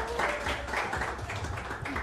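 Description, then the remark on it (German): An audience applauds as the last guest is brought onto the stage, a steady, dense wash of clapping that holds at an even loudness for about two seconds, with a few faint voices mixed in. “Ja, genau. Applaus bitte.”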